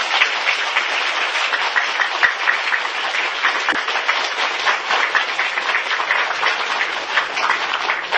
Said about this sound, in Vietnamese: Nếu đúng như vậy, quý vị cho một tràng pháo tay.